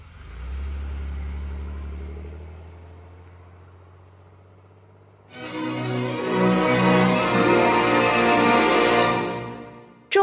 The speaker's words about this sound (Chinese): 于是，赵二童带着两个爪牙，簇拥着涂树东走出了黄家的大门，随即上了汽车，开出黄家的巷道。